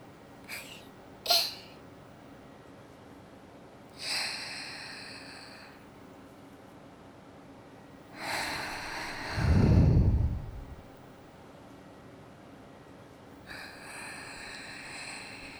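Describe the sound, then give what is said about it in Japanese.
A few slow, airy breaths blown straight into a microphone, one heavier exhale adding a low rumbly puff, with faint clicks at the start and quiet hiss between breaths; no one speaks. “私の吐息なんかも聞きたいですか？”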